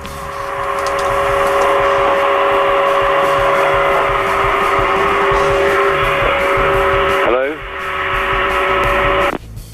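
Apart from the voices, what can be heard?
vacuum cleaner running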